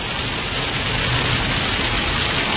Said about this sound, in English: Oh wow, listen to that rain now. It's really coming down.